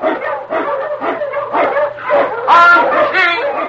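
Sled dogs, led by the Wonder Dog King, an Eskimo lead dog, bark and yip excitedly in quick, overlapping bursts, loud, with the yelps growing higher and more frantic toward the end, as he blazes the trail through storm and snow in the Yukon. No one speaks.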